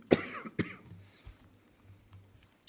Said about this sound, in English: I still have a good bit of a cough left, but it hasn't been giving me too much trouble in the last week.